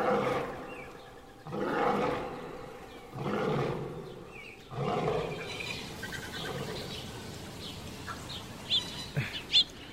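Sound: lion roaring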